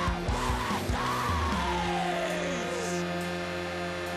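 The lead singer of a hardcore punk band lets out a long, loud scream that slides downward in pitch, over dense, distorted band music with sustained droning tones. No speech is heard.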